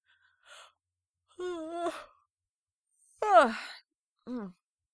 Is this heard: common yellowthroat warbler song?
no